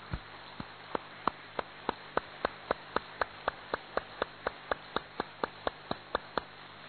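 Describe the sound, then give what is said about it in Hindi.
A group claps hands loudly in unison, a steady, brisk rhythm of about twenty sharp claps evenly spaced over several seconds, with no voices. “अभी एक बार जोर से तालियां बजाएंगे हम, अच्छी तरह से बजाएंगे।”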